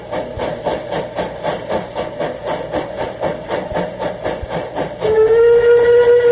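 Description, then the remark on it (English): Steady rhythmic chuffing of a steam locomotive going through a tunnel gives way to a loud, sustained blast of its acorn-design steam whistle that continues to the end. “Yeah, this is the General going through a tunnel.”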